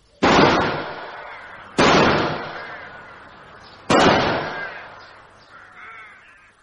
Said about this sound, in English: Shots went about 20 feet over my head. I was never in any danger.